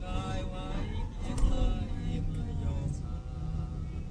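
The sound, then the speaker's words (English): A driverless car, left in drive after its driver got out, rolls down an avenue into oncoming traffic: a steady, rumbling engine drone with road noise, a faint whining tone above it, and a brief louder surge partway through. “Kept it in drive, send it down the avenue.”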